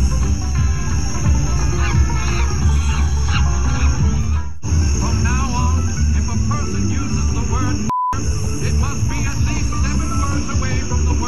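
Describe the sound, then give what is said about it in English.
A neighbor in Virginia Beach loudly imitates monkey calls at a family as they step out of their house, a continuous stream of hooting, whooping and screeching sounds over a noisy background. The calls pause briefly partway through and then resume. “Whenever we would step out of our house, the monkey noises would start.”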